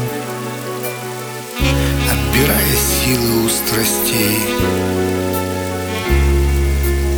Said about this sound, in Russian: А дождь все стучит и стучит сильнее